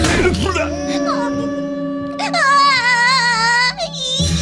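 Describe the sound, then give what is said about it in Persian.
A small child cries loudly, with a wavering, high-pitched wail that swells in the second half, over a faint steady hum in the background. “کوچولو کوچولو گریه نکن، بیا بغلم بخواب.”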